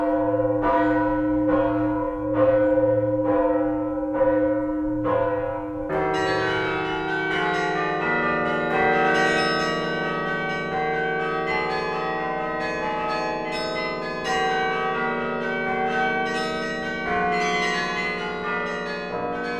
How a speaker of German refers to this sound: Älteste Glocke Deutschlands, gegossen im Jahr 1038. Die Lullusglocke in der Stiftsruine Bad Hersfeld